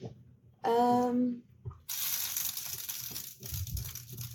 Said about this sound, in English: So, what are you bubbling over? There's nothing, it's like spitting water out. Just like literally a drop just keeps spitting over the side.